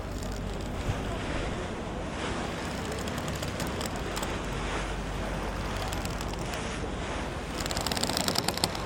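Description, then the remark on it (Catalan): Ocean waves wash steadily around a sailing ship, with a constant rush of wind and water and no one speaking, the surf swelling slightly louder near the end. “El vaixell pirata, amb les seves veles negres, tallava les aigües blaves en direcció a una illa misteriosa”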